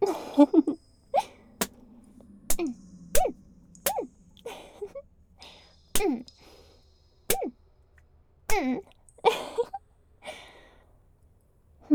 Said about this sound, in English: You're breathing awfully hard for someone who's barely moving.